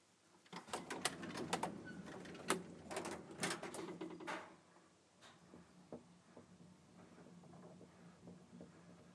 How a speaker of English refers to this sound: Oh, I suppose maybe the lift only goes up from here. Lifts here. Huh. In we go. And I'll push the button and if we just listen yes. to the noises it makes.